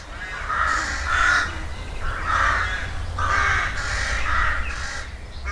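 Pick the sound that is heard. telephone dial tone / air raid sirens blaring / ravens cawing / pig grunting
ravens cawing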